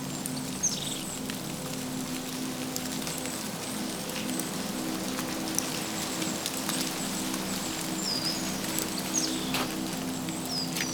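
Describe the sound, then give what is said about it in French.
A few small birds chirp sparsely in cold weather at a nearly north-facing spot where snow is partly melting: short high calls scattered over a steady hiss of wet, dripping outdoor ambience with no one speaking. “Quasiment face nord, malgré le froid, quelques oiseaux sifflotent.”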